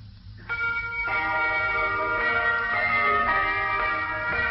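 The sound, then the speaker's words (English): Four boys play an entire set of 206 handbells on a table, ranging from tiny bells to ones hardly liftable, ringing out a melody: bright overlapping chimes entering after a brief pause and sustaining in a steady, shimmering flow of tones, fairly loud, with no voices. “There are really 206 bells on the table. The four boys playing the entire set.”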